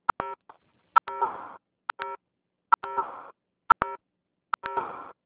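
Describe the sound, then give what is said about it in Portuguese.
Short electronic keypad beeps from a mobile phone, pressed in quick pairs at a steady pace, each pair followed by a brief rustly burst of noise; no voices are heard. “Tem um celular fazendo barulho.”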